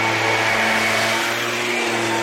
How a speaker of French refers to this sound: L'avantage du scooter, c'est qu'on l'entend toujours, qu'on le voit ou pas.